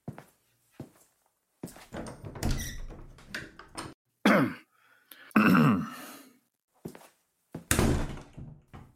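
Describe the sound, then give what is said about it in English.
A door is handled as a man walks out: a few clicks and knocks, then a creaking swing open and a firm thud as it shuts, with rustling movement in between. No one speaks. “Sal walks out the door”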